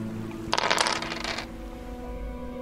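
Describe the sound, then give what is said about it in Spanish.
A pair of eight-sided dice are rolled for a sanity check in a tabletop role-playing game, clattering across a hard surface in a quick, rattling burst lasting about a second, then settling, leaving a quiet hum behind. “Lánzame dos dados de 8.”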